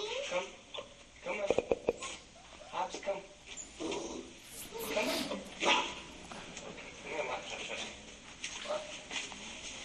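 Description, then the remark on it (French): A dog gives a few sharp barks early on, then keeps whimpering and whining in high-pitched, uneven bursts for the rest of the stretch. “On veut tout avoir un chien après.”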